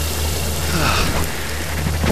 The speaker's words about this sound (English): There's water everywhere. It's gushing from the ceiling. It's a fucking waterfall.